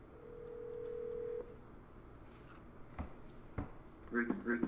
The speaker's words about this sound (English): let's get him on the phone. We're going to go ahead and call him. We're going to live call him. This live call. Live call him. So here we go. Hopefully this dude picks up.